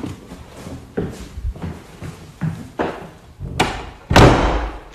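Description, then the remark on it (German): The door of a theater room is handled with a run of soft knocks and bumps that grow louder, ending in a heavy slam as it is shut and then locked. No one speaks. “Mach mal die Tür hinter dir zu, damit niemand kommt.”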